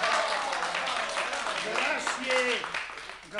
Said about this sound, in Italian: Ma il nostro applauso è sincero e vuol dimostrare...